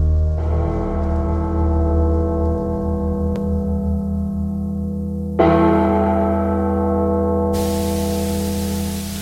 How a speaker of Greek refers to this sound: Πάμε να χτυπήσουμε λίγο τις καμπάνες. Τις καμπάνες της κολάσεως, του παραδείσου, δεν ξέρω.